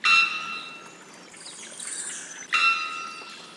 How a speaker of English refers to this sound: the three-wattled bellbird, whose unmistakable call was captured on this recording by Andrew Roth